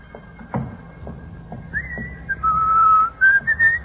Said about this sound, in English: Do you think you should whistle so loudly, Miss Brooks? We're right outside Daddy's office, you know.